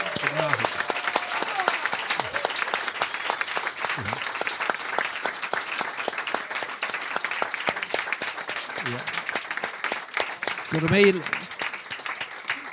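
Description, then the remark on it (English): A sustained round of applause from a crowd, dense and steady clapping throughout, with a few brief voices and a cheer rising near the end. “Big round of applause”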